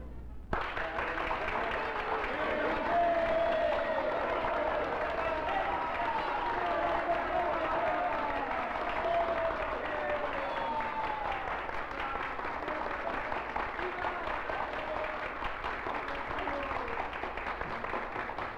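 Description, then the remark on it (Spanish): An audience claps steadily for nearly twenty seconds, a dense, even wash of applause with crowd voices mixed in, holding at a constant loudness from start to finish. “¿Aplauden, maestro?”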